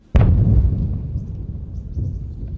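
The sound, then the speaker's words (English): A massive explosion hits with a sudden, sharp boom, then rolls into a long, heavy low rumble that swells again near the end, sounding like further blasts, as Gaza is leveled sector by sector. “Behind them, the sounds of massive explosions as Gaza is leveled sector by sector.”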